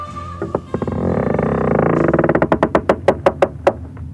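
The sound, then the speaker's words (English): The seventh door, high up in a tower, creaks open, its hinge groaning in a fast stuttering rattle that slows into a series of distinct, sharp creaks as it swings wider. No one speaks. “Let's see what will happen when I open the door.”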